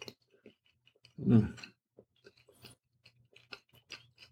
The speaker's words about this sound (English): So this is taking me a minute to chew this out.